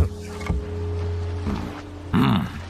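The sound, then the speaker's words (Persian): A small boat chugs along on the water, its low motor droning steadily, with a sudden louder rush of sound near the end. “میدونم نباید تنهایی از قایق استفاده کنم.”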